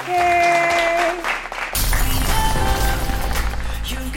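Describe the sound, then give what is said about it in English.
Steady tones hold for a moment, then a loud burst of continuous clapping takes over, a dense patter of many hands that keeps going to the end. “We always clap at the end.”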